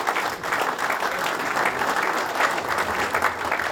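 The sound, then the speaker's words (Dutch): Steady, sustained applause from an audience, a dense patter of many hands clapping at an even loudness for the whole stretch, with no voices standing out. “En dat is Jaan de Graaf. Applaus.”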